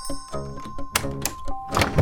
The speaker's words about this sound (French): L'homme emmène les Van Kalk dans un quartier du nord de Bruxelles. Il sonne à une porte.